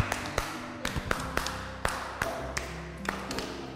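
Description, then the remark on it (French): A class claps in a loose, uneven pattern: about a dozen sharp, separate claps over a few seconds rather than a dense wash of applause, with a low murmur underneath, applauding a correct answer during a subtraction lesson. “Applaudissons.”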